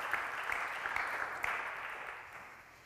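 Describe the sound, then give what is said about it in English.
An audience claps together in a steady, dense burst of applause that holds evenly for a couple of seconds, then gradually thins and fades toward the end. “We can clap, so why don't we actually do that?”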